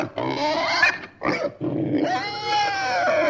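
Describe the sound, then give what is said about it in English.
A pig grunts and squeals in a run of loud snorting calls, with a short pause before a longer, higher, wavering squeal. No one speaks. “Now, the other and probably the most important discussion today is pig talk.”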